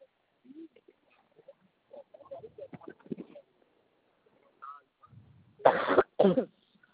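Two loud, harsh coughs in quick succession, preceded by scattered softer throat sounds and low mumbling noises.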